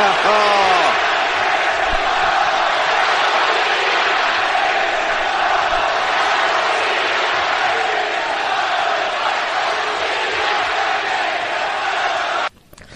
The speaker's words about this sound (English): And not only did they stand across from each other in a ring, you just heard the crowd go crazy. This is something none of us thought we would ever see. This is amazing.